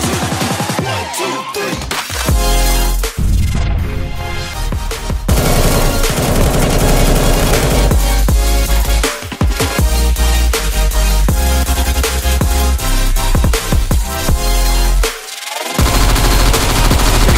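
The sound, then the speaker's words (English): Loud, dense bursts of video game MAC-10 submachine gun fire rattle almost nonstop, with overlapping rapid shots and only a few brief pauses throughout. “Oh my god, these MAC-10s are being used like AKs.”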